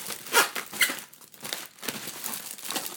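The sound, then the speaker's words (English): Bubble wrap with very large bubbles, from a package being unpacked, crinkles and rustles continuously for a few seconds, with sharper bright crackles standing out early on and a steady papery texture after, fairly quiet and with no voices. “You can hear the bubble wrap.”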